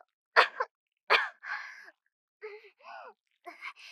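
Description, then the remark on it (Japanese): Two sharp, close coughs burst out in quick succession, followed by a few shorter, throaty vocal sounds with brief pauses between them. “咳が。”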